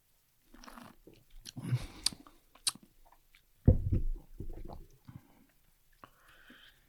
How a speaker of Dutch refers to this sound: Gaan we een slok nemen? Ja.